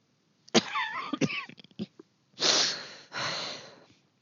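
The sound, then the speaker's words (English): Leia's loud choking cough fit after knocking back a strong drink: sharp sputtering hacks and strained vocal gasps, followed by two long, rasping wheezing breaths, likely a voice acting out the choking. “I don't know how to do any of this, Leia confessed, when the coughing finally subsided.”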